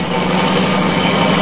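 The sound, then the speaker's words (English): A car engine roars steadily and loudly as the car travels at high speed at night, a dense rushing drone that holds at an even level without pauses. No voices are heard. “Well, company coming. Seems to be travelling at quite a rate. Too fast, even this time of night.”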